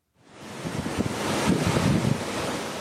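ocean waves breaking

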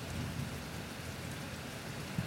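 rain with distant thunder

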